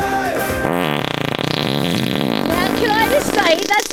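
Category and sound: human body sound, fart sound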